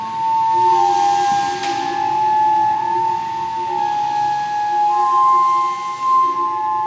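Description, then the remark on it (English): Air blown through pipes in a building, made to act like giant flutes, makes steady, breathy flute-like tones, a few sustained pitches shifting and overlapping over a constant airy hiss. The sound is produced mechanically. The tones are fairly loud and continuous, with no voices. “Everything is, all the sound is produced mechanically by hitting parts of the building or causing the girders to vibrate, blowing air through pipes to make them act like giant flutes.”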